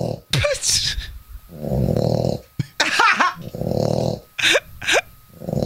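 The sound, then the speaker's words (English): A dog snoring: two long, rumbling snores broken by sharp, whistling snorts and wheezy breaths, loud and steady with no one talking. “That was a dog.”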